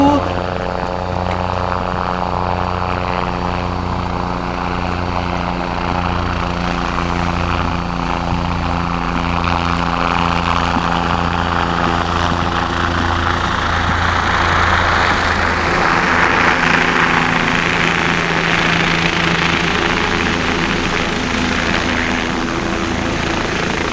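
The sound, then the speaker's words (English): A big red and white helicopter flies low over a small town, its loud, steady rotor drone and engine whine filling the air for the whole stretch and swelling as it passes closest. “And then, the big red and white helicopter flies low overhead.”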